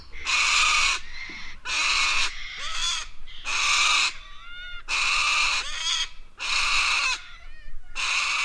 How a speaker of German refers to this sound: Auf dem Weg zum Opal, mitten in der Wüste von Südaustralien. Ein Schwarm von weissen Kakadu signalisiert mit seinem Geschrei, dass keine menschlichen Besucher erwünscht sind. Die Papageien wohnen hier rund um ein grosses Wasserloch in den Bäumen.